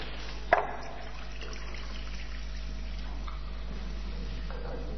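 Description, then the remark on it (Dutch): Water is poured into a bowl for washing feet: a quick splash at the start, then a soft, steady trickle that carries on quietly for several seconds, with no one speaking. “En de Heer Jezus die vult die schaal met water.”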